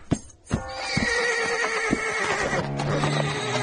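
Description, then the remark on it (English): A horse whinnies loudly and shakily, its agitated neigh rising and wavering for several seconds, with a few sharp hoof knocks and stamps underneath. “Easy, horse, easy.”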